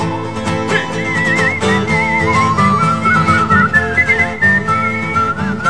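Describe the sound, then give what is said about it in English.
A person whistles a wavering melody over loud, full backing music with a guitar, the thin whistled line weaving steadily above dense instruments for several seconds with no talking. “I can't do a tune because his music's so overpowering. I can't even do it. Whistle what he's doing.”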